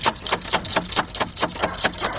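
Someone knocks on the front door in the middle of the night in a steady, rapid series of about ten sharp raps, each hit crisp and fairly loud, with no voices.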